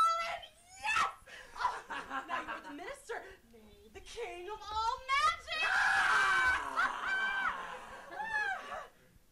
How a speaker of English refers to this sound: Oh, a lot of screaming.